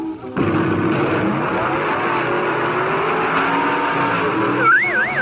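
Drag racing cars roar loudly and continuously on a Saturday night at Detroit Dragway after a brief quiet start, a dense engine din, with a warbling, siren-like tone rising over it near the end.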